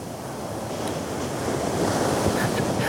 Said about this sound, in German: Den Pavillon. Und den Pier. Weggeschwemmt von den Wellen. Den meterhohen Wellen. Den haushohen Wellen.